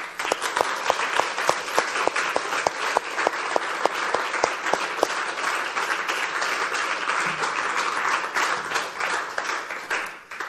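A crowd applauds warmly and steadily for about ten seconds, dense overlapping claps with a few sharper individual hand claps standing out early on, fairly loud throughout.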